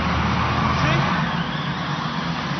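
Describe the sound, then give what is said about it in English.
A Camaro's engine rumbles steadily as the car pulls off, its low drone holding fairly loud with only a slight fade, while indistinct voices murmur underneath. “That car is sensitive. I mean, $4,000 just drove off.”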